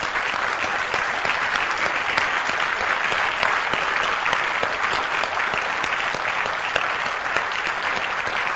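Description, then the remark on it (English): Steady, sustained applause from an audience, a dense wash of many hands clapping at an even loudness throughout, with no voices standing out. “You deserve a hand.”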